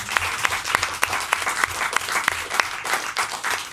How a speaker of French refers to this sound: C'est joli. Philosophe. On peut applaudir.